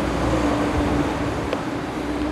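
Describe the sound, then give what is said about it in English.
Busy roadside ambience at a bus station as bus after bus fills up: a steady low rumble of idling engines and passing traffic, with a constant motor hum running through the whole stretch and no voices. “Back at the bus station, he sits patiently waiting as bus after bus fills up.”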